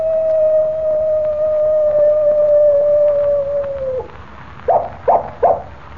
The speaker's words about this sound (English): Did you hear that? I certainly did, Jimmy. It was a coyote. And here it comes now. Well, I'll be... Why, it's a real coyote.